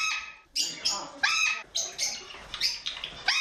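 Several birds in an aviary bird room in Saint Petersburg chirp and squawk in a lively, overlapping chorus in the morning, with repeated harsh calls bursting out every half second or so against a busy indoor background.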